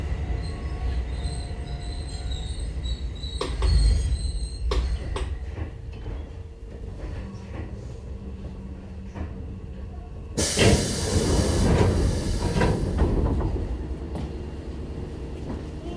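A train rolls into Takada station in Japan with steady low rumbling and a few sharp wheel squeals, then a loud burst of hissing air as it stops. No one speaks.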